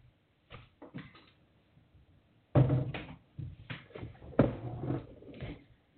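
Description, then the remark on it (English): A door closes: a few light clicks and rattles of the latch, then a solid thump and a second knock as it settles into the frame. No one speaks. “Closing the door.”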